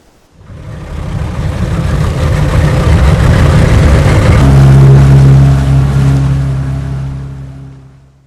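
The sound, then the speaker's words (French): A boat engine drones steadily over the sea, rising from near silence to a loud, rumbling roar with a sustained low hum and splashing water, then gradually fading away. “Mais Nacre, lui, continuait de nager après le bateau.”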